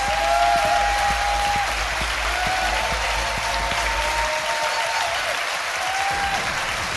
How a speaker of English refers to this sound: please give a massive round of applause to my fantastic guest